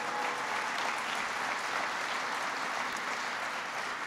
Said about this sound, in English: First of all, my Secretary of Agriculture, you may still know him as Governor Vilsack. I know him as Secretary Vilsack. Give Tom Vilsack a big round of applause.